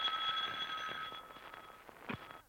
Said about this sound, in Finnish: Vihdoinkin kellon jo lähetessä ensimmäisen huomentunnin täyttymistä soi naisreportterin puhelin.